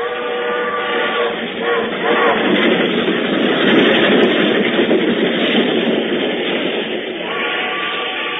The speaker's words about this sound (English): They are looking out the window of the smoking car, and in a few moments, the train will stop to drop them at a lonely junction point where the mystery waits for them.